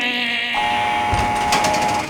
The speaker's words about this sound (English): When there is a noise, like a steel gate opening because the guards are going to come down to tear, it's just nerve-wracking to hear that noise. Coming onto the tear, it's a heavy steel door and it opens electrically, which means you hear.